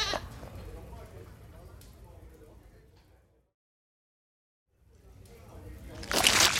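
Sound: goat bleating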